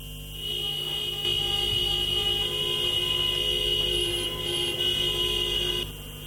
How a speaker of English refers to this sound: Thousands of taxis formed a long queue around Madrid's famous landmarks, clogging the streets while honking.